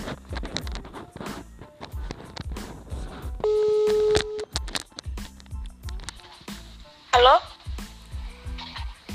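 phone call ringing tone

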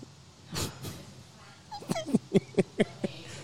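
dog whimpering

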